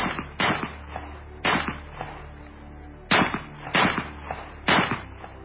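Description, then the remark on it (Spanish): A rapid volley of pistol shots as Yusupov empties his pistol into Rasputin's body in the palace gardens: about six sharp cracks fired in quick irregular succession, each with a brief decaying tail, loud and with no voices. “Yusupov, preso de la ira, preso del pánico acaso, cogió la pistola de nuevo y descargó todo el contenido sobre el cuerpo de Rasputín.”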